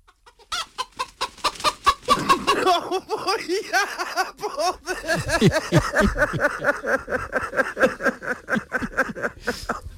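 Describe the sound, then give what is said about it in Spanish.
A flock of chickens clucks busily and continuously, with rapid overlapping clucks and bursts of cackling filling the whole stretch and no talking. “Las gallinas esperan.”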